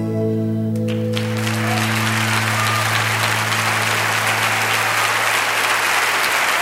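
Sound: thunderous applause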